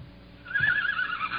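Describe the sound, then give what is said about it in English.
A horse in a shed whinnies, a single shrill, wavering neigh that starts after a brief quiet moment and carries on to the end, with no voices present. “Sick horse? No, the horse is fine.”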